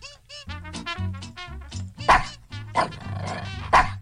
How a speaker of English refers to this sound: He wants to know if he can bark to the beep beep. You can try.